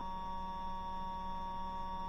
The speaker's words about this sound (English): My Wii froze. This is making the loud beep noise.